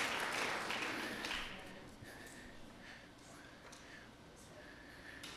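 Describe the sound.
A burst of audience applause celebrating a soccer coach's 200th win, dense at first, then quickly thinning into scattered, quieter clapping with faint background voices.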